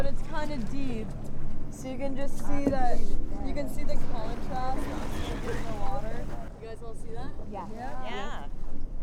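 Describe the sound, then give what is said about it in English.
Steady wind buffets a small boat out on open water off the Outer Cape, searching for white sharks with a spotter plane, with a constant rushing, engine-like rumble. Several voices talk over it throughout. “We change the position of the boat to cut down on glare, and then there it is, 1.5 boat lengths away.”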